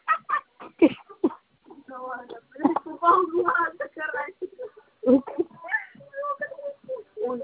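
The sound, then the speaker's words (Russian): A cat named Sonya makes a series of loud, harmonic cries in short bursts, one after another over several seconds, with brief pauses between them. “Что, блядь, кошка ёбаная? Тихо, Соня!”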